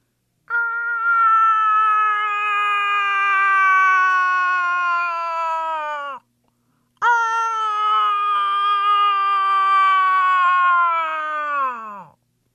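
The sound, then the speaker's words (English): While moose hunting, a man imitates a cow moose call to call in a bull, with two long, nasal, wailing moans of about six seconds each. They stay loud and steady, then sag downward in pitch, with a brief pause between. “Now he is calling in a bull by pretending to be a cow, like this.”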